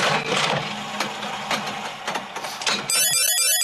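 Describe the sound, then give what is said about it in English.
An IBM punch card feeds into a reader: a steady mechanical whirring clatter with regular sharp clicks, then a sudden switch to rapid, high, chirping electronic warbles at the end. “In goes the next IBM punch card.”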